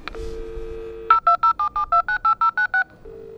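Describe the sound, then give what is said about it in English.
Door panel intercom dialing tones at artist Ryan Gander's studio in East London: a brief click and a steady low beep, then a quick, evenly spaced run of about eleven short two-pitch keypad tones, ending on a soft low tone. No voices. “Please wait, your call is in progress.”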